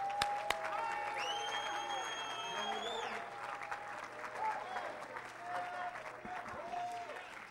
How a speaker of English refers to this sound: Oh, let's clap our hands to Him.